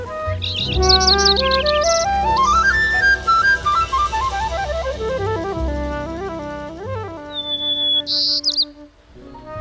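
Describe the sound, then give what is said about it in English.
Several breeding birds sing at once early in the morning in a willow carr in Rocky Mountain National Park, a dense, continuous chorus of high chirps, trills and whistled phrases that rise and fall, with no voices present. “And if you go to one of these willow cars early in the morning, they're just alive with the sounds of breeding birds singing.”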